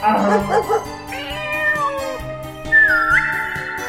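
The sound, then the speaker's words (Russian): A cat meows twice: a long, wavering call followed by a shorter, rising one, both clear over a soft background murmur. “Кот идет, мяукает по-кошачьи.”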